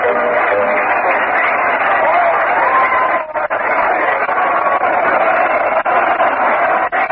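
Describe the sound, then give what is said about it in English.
A large baseball stadium crowd roars steadily at a Mets game, bottom of the sixth inning with the Mets leading 1-0, as Tom Seaver pitches to Jones with Rusty Staub in scoring position; a dense wash of cheering voices that stays loud and unbroken throughout, with only a brief dip partway through. “And the crowd is flying for action.”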